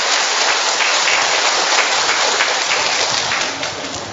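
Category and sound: crowd, audience applauding loudly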